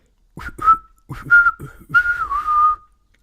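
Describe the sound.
A person whistles short, chirpy bird-like calls in four or five close bursts with brief gaps, imitating birdsong to scare away a bird sitting on a chainsaw chain, clear with no talking.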